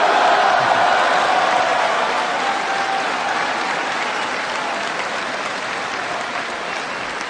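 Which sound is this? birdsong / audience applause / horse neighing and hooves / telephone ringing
audience applause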